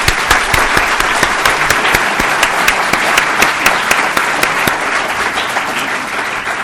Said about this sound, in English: And before I say another word, I want to thank CSIS for hosting us, and I'd like everyone to give them a big round of applause.